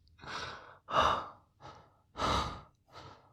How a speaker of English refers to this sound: You're breathing really fast. Is everything okay?